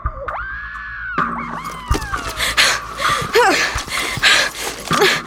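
A woman's piercing shriek rings out, high and sustained for about a second, then breaks into shorter strained cries over a loud, chaotic jumble of noise.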